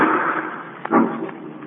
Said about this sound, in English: Margot and Lamont are in the home of the wealthy actor Hugo Zara, owner of the fabulous Ruby of Carval, when suddenly from upstairs they hear the sound of a gunshot.